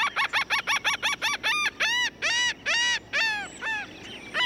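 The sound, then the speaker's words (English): A laughing gull calls in a loud series: quick clipped notes speeding along, then longer drawn-out nasal 'ha-ha' cries that slow and fade near the end. No one speaks. “Coastlines almost always have some gulls, like this laughing gull.”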